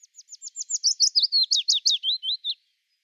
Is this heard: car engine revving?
no